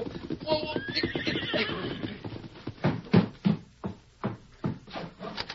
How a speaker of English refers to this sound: A broad wagon trail led directly to the house. It echoed now at the hoofbeats of a horse ridden by the widow's youngest son